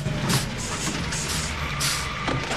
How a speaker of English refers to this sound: Taggart drives in, followed by Billy and Axel in the cement mixer.